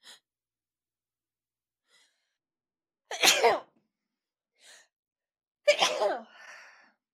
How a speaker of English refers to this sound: Hold on. I'm about to sneeze. Are you ready?